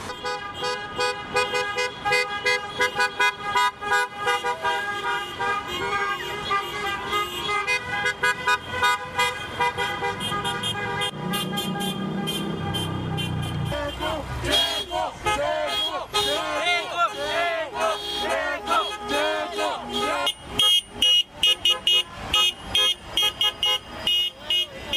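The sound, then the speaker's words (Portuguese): Dense street celebration in Mexico with many car horns honking at once, sustained tones overlapping in a loud, continuous blare, with crowd noise and shouting underneath and bursts of rapid honking toward the end. “Esta foi a festa nas ruas no México.”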